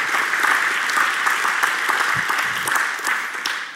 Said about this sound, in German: Und ich weiß nicht, ob du es glaubst, aber wenn du es glaubst, dann darfst du jetzt mal Gott einen Applaus geben, wenn du bereit dafür bist, etwas zurückzuholen, was dir genommen wurde.